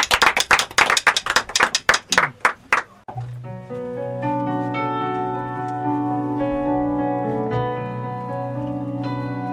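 About three seconds of loud, sharp hand claps in a steady rhythm, tapering off as sustained keyboard-like musical chords begin and continue alone.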